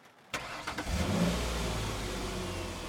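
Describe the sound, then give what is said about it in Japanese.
A car engine cranks over with a few quick starter pulses, then catches and settles into a steady idling rumble; the car is started during heavy rain, and the air conditioning is then switched on. No one speaks. “エンジンをかけた南はエアコンをつけ、その風で自分の濡れた服と髪の毛を乾かすことにした。”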